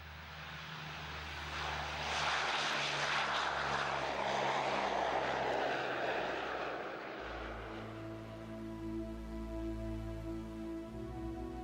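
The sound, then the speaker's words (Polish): A Convair CV580 propeller airplane roars as it takes off from the airport in Oslo, its broad engine noise swelling, then settling into a steady droning hum with strong low harmonic tones as it climbs. “Samolot rozpoczął wznoszenie.”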